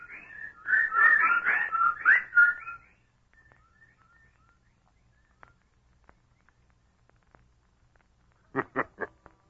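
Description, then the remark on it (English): A loud flurry of chattering, whistling bird calls for a couple of seconds, then near silence with faint scattered peeps, ending in three quick, sharp calls close together. “The birds, they didn't get him.”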